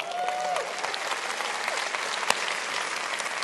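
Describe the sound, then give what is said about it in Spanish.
Steady audience applause, a dense wash of many hands clapping throughout at an even, moderately loud level, with a brief whistle-like tone near the start and one sharper clap standing out. “Denles un buen aplauso.”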